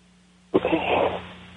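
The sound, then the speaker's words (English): A single sneeze bursts out abruptly from near silence, a loud, breathy blast that fades away over about half a second. No one speaks. “I had a sneeze there”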